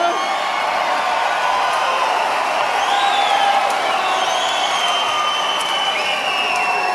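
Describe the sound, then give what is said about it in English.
A large audience cheers and applauds loudly and continuously, with whoops and shouted voices rising over a steady wash of clapping throughout. “Ah, yes, the quiet, conservative, opera kind of crowd, yes. Not.”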